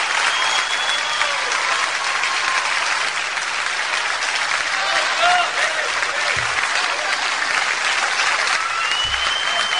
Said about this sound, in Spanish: Claro, es el aplauso, es el aplauso que les trajimos especialmente. Como hacemos siempre con la gente linda que nos viene a visitar.